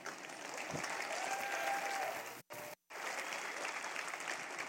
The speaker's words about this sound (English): That's an awkward church clap. Clap like you mean it, people.